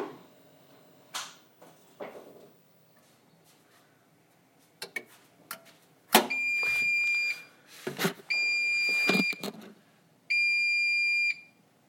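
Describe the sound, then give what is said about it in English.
A Hotpoint Ultima washing machine's end-of-cycle signal: three long, steady, high-pitched electronic beeps at even intervals, each lasting over a second, preceded by scattered clunks and rattles. “She's done. I thought it was going to do a disentangle cycle, but it didn't.”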